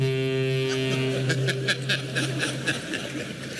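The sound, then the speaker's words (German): A deep, steady foghorn blast, used as a signal that the allotted time has been exceeded, sounds loudly for a second or two. It then fades as bursts of soft chuckling laughter break in and carry on to the end. “Haben wir dann nach weiterer Zeit ein typisches maritimes Geräusch hinzugefügt, ein Nebelhorn, das uns auf das Überschreiten der Zeit hinweist.”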